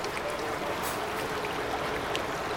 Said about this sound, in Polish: Tutaj widać w pełnej okazałości rzekę Tanew i te słynne progi, które zostały zarejestrowane jako unikatowe zjawisko na liście UNESCO.